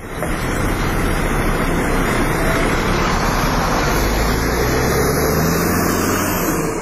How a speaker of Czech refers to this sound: Sedmice su prošle pre nego što ga je ovaj autobus dovezao na prag Evropske unije.